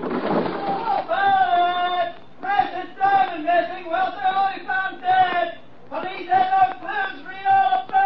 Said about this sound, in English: Do you hear that? Hear it. It's shouting at me. Close the window quick.